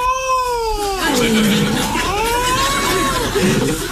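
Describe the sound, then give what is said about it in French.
A voice imitates a wild cat's yowling caterwaul, with long wavering, rising and falling cries that swoop up and down in pitch, loud, over a faint steady background hiss. “Ah non, c'est un chat sauvage, pardon, je suis bête.”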